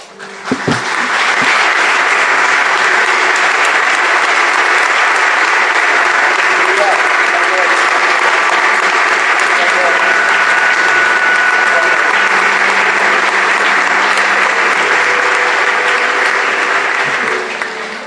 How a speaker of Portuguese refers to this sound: Eu quero aplaudir a Jesus